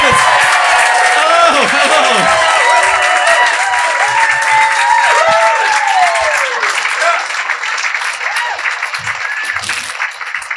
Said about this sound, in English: Would you please, well, I was going to say keep the applause going, but now start the applause and welcome to the stage,